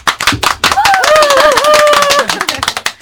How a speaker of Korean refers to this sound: 우리 박수로 좀 찬양해볼까요?